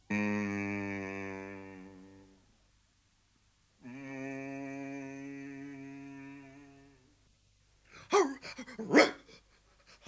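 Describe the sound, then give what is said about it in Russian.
A dog lets out two long, drawn-out growling cries, then a short flurry of loud, sharp barks near the end. It is fairly loud, with no talking. “Ну что ты, пес, на меня уставился во все глаза?”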